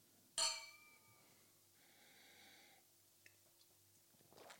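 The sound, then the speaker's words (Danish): Two glasses of the 2019 version of Lyrique meet in a single bright clink in a toast that rings out with clear, decaying tones, followed by quiet with a faint low hum and small shuffling noises. “Skål. Skål.”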